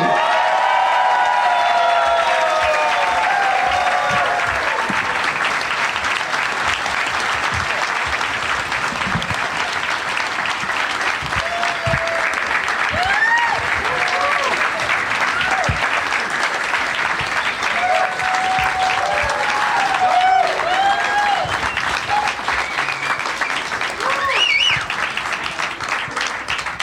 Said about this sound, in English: That was long applause. You guys really kept it going.